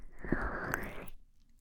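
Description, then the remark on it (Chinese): Wet kissing sounds with a couple of sharp lip smacks over about a second of soft mouth noise, then quiet. “看我亲”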